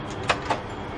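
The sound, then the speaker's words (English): A door being opened for a guest: two short, sharp clicks or clunks close together against a steady low background hum, with no voices. “Mrs. Arnie has come. Open the door.”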